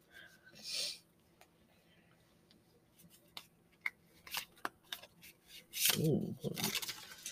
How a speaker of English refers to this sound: I've been mixing them. You really don't have to mix them. It's habit. Anytime I get cards, anybody that grew up playing cards, as soon as cards land in your hand, you shuffle them.